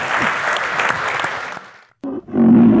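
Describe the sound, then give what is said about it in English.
An audience gives a burst of dense applause for a coach at the end of a talk. It dies away over about two seconds, then a loud, low, roaring tone cuts in abruptly after a brief silence. “Ladies and gentlemen, please a warm applause”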